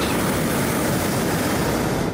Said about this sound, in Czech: Teď, co jste slyšeli, bylo přidávání tepla do toho horkovzdušného balónu, který se vznáší nad námi.